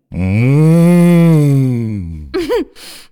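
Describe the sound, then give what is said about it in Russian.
A person imitates a cow with one long, loud, steady moo lasting about two seconds, followed by a couple of short vocal sounds. “«Надо мычать». «Я мычу».”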